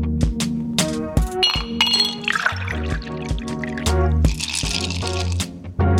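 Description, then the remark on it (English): Glasses clink together in a toast, several bright chimes scattered over a few seconds, mixed with pouring, splashing liquid and a steady low musical backing; no one speaks. “All right, cheers, and welcome to my next guest today,”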